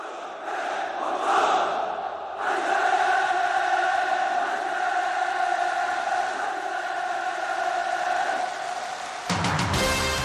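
Thousands of spectators cheer at a North Korean military parade as Kim Jong-un walks past flags and honour guard soldiers to the podium, a sustained, loud roar of many voices, swelling after a couple of seconds and holding steady before a brief break near the end.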